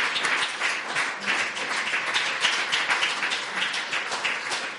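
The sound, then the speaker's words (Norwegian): An audience applauds steadily throughout, a dense, continuous patter of many hands clapping at a fairly even loudness with no voices standing out. “Ja, gi deg en applaus.”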